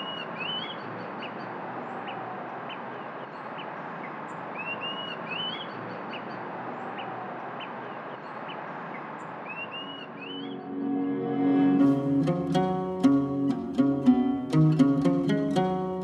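Short rising bird chirps repeat every few seconds over a steady outdoor hiss, fairly faint, before music swells in and takes over the second half.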